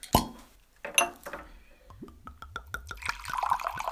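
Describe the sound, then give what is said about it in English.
A bottle of 2015 Garnacha wine is opened: a sharp cork pop, a second softer knock, then a quick run of rhythmic, rising glugs as the wine gurgles out of the bottle. “going to do the honors and open up the bottle.”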